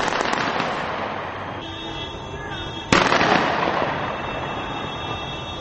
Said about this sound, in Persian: جانبداران قذافی به کوچه و خیابان‌های ترابلوس پایتخت لیبیا ریختند و از اسلحه آتش‌زا به هوا تیر خالی کردند.